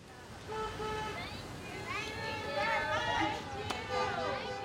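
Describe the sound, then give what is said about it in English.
Hundreds of cars honk their horns over and over as they drive past the entrance of a facility in mid-May in a show of support, horns overlapping in sustained and short blasts of differing pitch, with steady traffic rumble underneath as the vehicles pass in a long stream. “Hundreds of cars drove by the entrance to the facility, honking horns and displaying signs that said, "Villas Strong, and we love you."”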